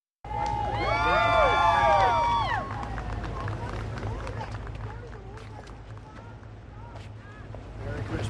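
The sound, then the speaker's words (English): A crowd cheers loudly with many overlapping shouts and whoops for a couple of seconds as President Trump and First Lady Melania attend a music-filled Christmas Eve church service at Family Church in West Palm Beach, Florida, then settles into a busy murmur of voices over a steady low hum. “President Trump and First Lady Melania were greeted with cheers as they attended a music-filled Christmas Eve church service at Family Church in West Palm Beach, Florida.”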